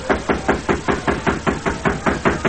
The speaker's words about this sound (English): Several hours later, Uncle Homer swaggered up to the door of the Modoc City jail and knocked.